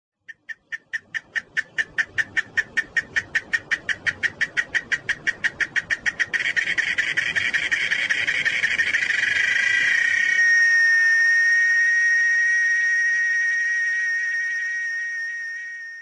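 insect, cicada singing

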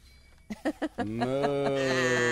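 animal, goats bleating

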